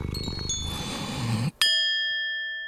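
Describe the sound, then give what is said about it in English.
A cat purrs in a low, steady rumble with faint chime tones above it, then stops as a bright chime strikes once and rings out, slowly fading. “Chimes. Purrs.”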